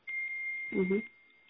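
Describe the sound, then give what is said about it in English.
A phone notification sounds as one steady, high electronic beep lasting about a second, fairly faint, with a brief murmur of a voice overlapping near its end. “My phone is going off crazy.”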